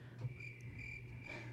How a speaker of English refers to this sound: The crickets. What? The crickets.